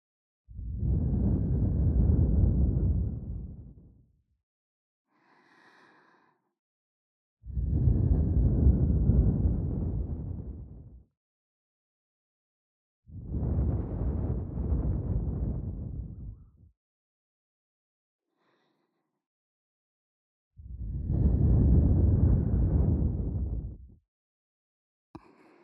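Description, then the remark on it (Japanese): Slow, heavy exhaled breaths from a girl right against the microphone, four long breathy gusts in a steady rhythm, each lasting a few seconds with quiet pauses and faint soft sounds between them. “女の子の吐息、いっぱい堪能してね。”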